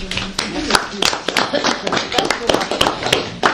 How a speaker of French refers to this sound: Non, non, mais vous pouviez continuer à applaudir.